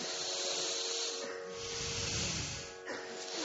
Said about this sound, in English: Then on an exhale, bring the hand back and bring it in the fist position. Inhale, spread the fingers. Exhale, fist. Deep breathing.